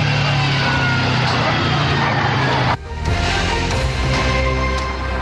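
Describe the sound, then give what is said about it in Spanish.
The engine of a damaged car screams at maximum revs as the driver tries to escape. It is a loud, harsh, sustained roar with a steady low drone that briefly drops off before surging back just as hard. “Ahí ustedes escuchaban la homocinética del vehículo a máxima revolución por minuto, el motor más que todo, para tratar de escapar.”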